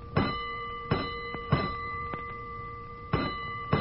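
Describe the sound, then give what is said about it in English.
A fire alarm bell clangs out a coded signal for a third alarm from box 3-2, Clark and Montague in the warehouse district: three ringing strikes, a pause, then two more, each leaving a bright metallic tone hanging. “Hold it, Collins, a third alarm.”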